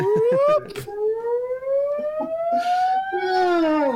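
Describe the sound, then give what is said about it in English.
A loud electronic alarm tone sweeps slowly upward in pitch, steady and insistent, from a wall speaker, with some brief background noises underneath. “I recorded that alarm and I will send it to the Bird Life chat now.”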